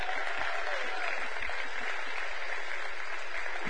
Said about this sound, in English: Youth group, kids church, what an honor. With a big round of applause, all of you, kids, youth, and you need, if you're in the youth, you ought to go, because you need to be a part. Out the back end, with a big round of applause.